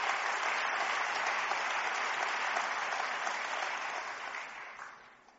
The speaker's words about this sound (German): Ich glaube, das ist großartig und das verdient auch unseren Applaus hier und unseren Respekt. Wir sind mächtig stolz auf euch. Euer Applaus habt ihr verdient.